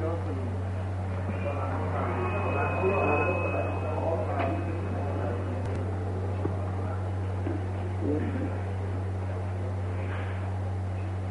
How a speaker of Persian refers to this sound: پنکه ها